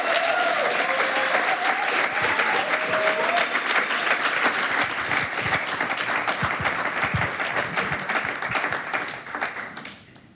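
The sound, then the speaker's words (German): Sustained audience applause welcoming a musician to the stage, a dense wash of many hands clapping at steady loudness for about ten seconds before tapering off sharply at the end. “Und sie mit ihrem Beifall vielleicht.”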